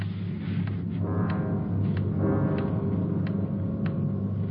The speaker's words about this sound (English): Loud clock, ain't it?